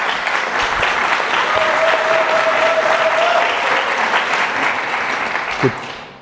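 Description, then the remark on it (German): Steady audience applause for the camera operator, a dense wash of many hands clapping that holds loud for about five seconds, then tapers off, with a brief whistle-like tone partway through. “Sonderapplaus fürs Kamerakind heute.”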